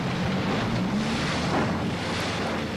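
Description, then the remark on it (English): A research boat's low, steady engine hum drones beneath constant rushing water and wind on Little Rock Lake in the Northern Highland American Legion State Forest, an even wash of noise with no voices and no pauses. “To simulate the acid rain that fell over parts of the U.S., research boats like this one sprayed acid into one of the basins.”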